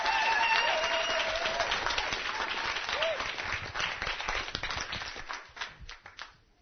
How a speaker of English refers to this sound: Let's let this little kid know that we think he's a great guy. Give him a good round of applause,